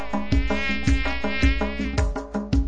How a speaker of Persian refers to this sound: هفت تا پشه اومدن ویزو ویزو ویز میخونن.